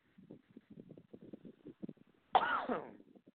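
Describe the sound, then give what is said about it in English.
A single heavy, harsh cough bursts out, loud and rasping, following a couple of seconds of low, muffled throaty sounds. “All right, well, I cough up the lung and no, I do not smoke cigarettes.”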